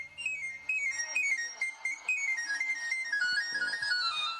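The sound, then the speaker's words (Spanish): The chiflo, the pan flute whistle of an itinerant knife sharpener (afilador), runs in quick, bright, high tones that climb and slide down the scale in repeated sweeping phrases, fairly loud and with no talking over it. “Ese es el sonido del chiflo.”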